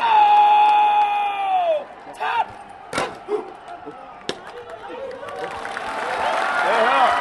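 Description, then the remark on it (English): Hundreds of Pakistani spectators at the daily flag-lowering ceremony at dusk at the Wagha crossing on the Pakistan-India border roar and shout, opening with a long sustained cry that breaks into scattered yells, sharp claps or thuds, then swells back into loud, dense cheering. “This daily ritual draws hundreds of Pakistani spectators on their side of the border, shouting at hundreds of Indians crammed into bleachers on their side.”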